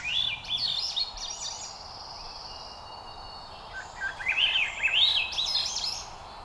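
A Swainson's thrush sings in Arkansas, its warbling, electronic-sounding song likened to a spaceship, with rising and falling whistled phrases, two bursts separated by a quieter stretch, over a steady background hiss of insects or wind.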